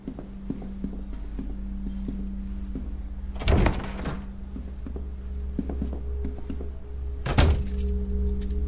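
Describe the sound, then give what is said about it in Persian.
Keys jangle and rattle in a lock in two short bursts as a door to an underground stairwell is unlocked, with small clicks in between, over a steady low mechanical hum. Fairly clear; no one speaks. “از یه در دیگه رد میشن، یکیشون کلید میندازه وارد راه پله زیرزمینی میشن.”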